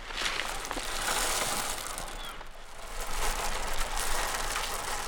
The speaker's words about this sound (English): I shoveled it off. I'm going to pour some birdseed.